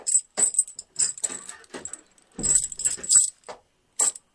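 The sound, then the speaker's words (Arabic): Keys jangle in a series of bright metallic bursts as a door is locked on someone inside, then a heavier clunk around the middle as the lock turns, followed by a few more short rattles. No one speaks. “أقفل عليه الباب ولا تدع أحدا يدخل عليه.”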